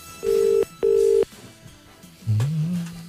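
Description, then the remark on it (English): A phone line rings twice on an outgoing call on line 2 in steady, loud tone bursts, the classic ringback heard while waiting for someone to pick up, followed by a lower muffled noise as the line shifts. “Still ringing. Yeah, it's a good strong ring there.”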